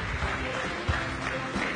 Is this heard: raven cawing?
no